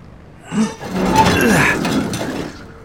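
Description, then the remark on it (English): A heavy door whose hinges had been blown off is pried open with a hunting knife: a short knock, then a sustained metallic scraping and grinding with faint clinks, fading out as it gives way. “Hunting knife, pry this baby open.”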